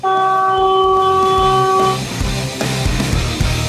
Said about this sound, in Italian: Oh senti, il camion. Come fa, trombe, come fa?